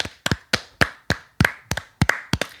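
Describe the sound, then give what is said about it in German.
A series of about a dozen sharp, fairly loud hand claps by one person, in an uneven rhythm with some quick pairs, with no talking. “klatsch mal in die Hände.”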